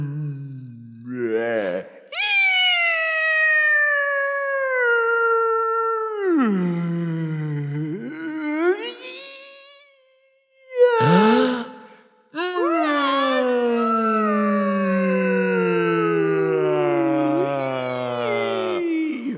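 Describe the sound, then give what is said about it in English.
Long, eerie humpback whale calls rise and fall in drawn-out, wavering moans with several sweeping glides, loud, separated by a couple of brief pauses, with no talking. “We go drop them off to meet the alien whales, and this is what they say.”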